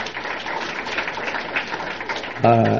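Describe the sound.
A crowd claps steadily for a couple of seconds, a dense, even patter of many hands, before a voice briefly cuts in at the very end.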